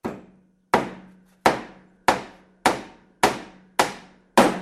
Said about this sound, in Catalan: La senyora de Can Coris va córrer cap a on sentia els cops i es va espantar tant que va demanar al masover que clavés la porta amb claus.